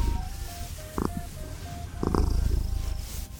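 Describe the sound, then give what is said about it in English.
A cat purrs steadily, a continuous low rumbling throb that swells slightly over a few seconds, with faint tonal beeps and soft background sounds underneath. “And a number of more fuzzy cuties, like Cory the Cat.”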